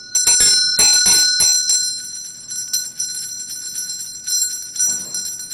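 meditation bell ringing

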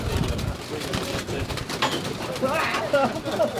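pigeons cooing

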